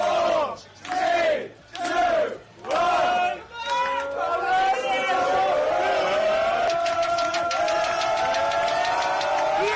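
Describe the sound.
Liverpool football players celebrating winning the Premier League title, their first in 30 years: four loud rhythmic chanted shouts, then a continuous boisterous sung chant from many voices with sharp claps or bangs mixed in.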